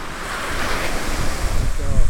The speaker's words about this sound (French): Après, c'est des grosses tempêtes, c'est des gros rouleaux qui viennent briser la côte.